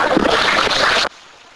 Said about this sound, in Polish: Zapraszamy również opiekunów, jeżeli są na sali, do wspólnego zdjęcia i jeszcze raz poproszę o wielkie brawa.